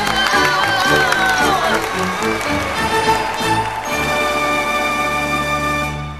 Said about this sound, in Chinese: 小朋友，我们再给布布蚂蚁最热烈的掌声。